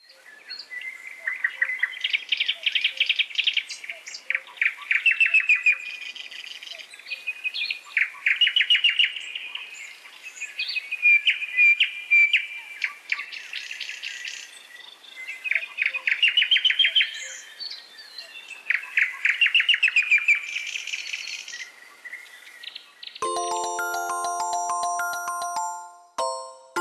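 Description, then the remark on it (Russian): A nightingale sings alone in rich, varied phrases of whistles, trills and rapid chirps, loud, for about twenty seconds before a short bright chime sounds at the end. “Но я вам хочу сказать, вы не успеете оглянуться, и пролетит мимо зима, и вы услышите пение соловья. Вот такое.”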